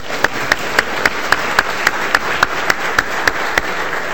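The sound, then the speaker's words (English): An audience applauds students responsible for an art exhibit, a dense wash of clapping with sharp, evenly spaced claps standing out about three or four times a second, sustained at a fairly loud level throughout. “So let's give them a hand, if you don't mind.”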